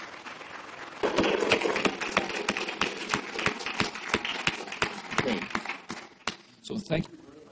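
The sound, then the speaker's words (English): An audience at a one-day event breaks into applause for the organising team after a quiet second, a dense wash of clapping with sharp individual claps standing out, holding steady for several seconds before thinning out near the end. “vous méritez une main d'applaudissements.”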